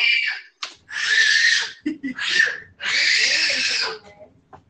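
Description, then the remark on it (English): A baby screeches in the background in loud, shrill bursts, four or five piercing cries in quick succession with brief gasping pauses between them, the longest wail held for over a second. “Y'all got to get the baby from screeching in the background.”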